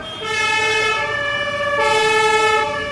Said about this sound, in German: Polizeisirenen waren von heute Morgen bis zum Nachmittag immer wieder zu hören in Kiel.